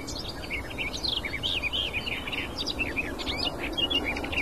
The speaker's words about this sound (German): Das hohe Pfeifen der Nachtigall.